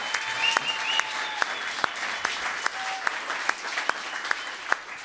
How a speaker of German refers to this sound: Einmal bitte den Applaus für Mahmoud Abdul-Rauf.